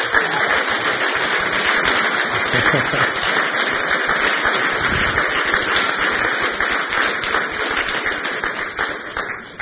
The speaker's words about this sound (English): She deserves that applause a lot more than I do, believe me.